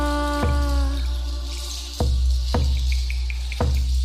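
Water drips in a cloud forest in a few distinct, irregularly spaced drops, each a sharp splashy plink, over a steady low ambient rumble with a faint ringing tone fading early on.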